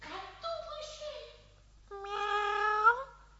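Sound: cat meowing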